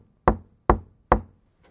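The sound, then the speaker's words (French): Three firm knocks on a wooden door, evenly spaced, followed by a much fainter fourth tap. No one speaks. “Voici, je me tiens à la porte et je frappe.”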